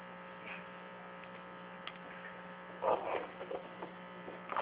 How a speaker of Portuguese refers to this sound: Não ouvi nada, peraí. É que eu tô com micro-ondas.